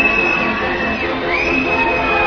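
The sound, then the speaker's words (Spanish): The audience at the Teatro Campo Amor applauds at the Goya awards gala as Education Minister Pilar del Castillo makes her entrance. A steady, dense wash of clapping holds at the same loudness throughout, with crowd cheers and a thin, high whistle-like tone running over it. “Los aplausos que escuchan son para la ministra de Educación, Pilar del Castillo, que hace su entrada en este momento en el Teatro Campo Amor.”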